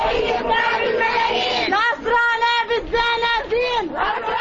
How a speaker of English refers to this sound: A crowd of Palestinians greeted the new legislators with calls to free their family members from Israeli jails. As the new Palestinian Legislative Council, or parliament, was sworn in at President Mahmoud Abbas's headquarters in Ramallah.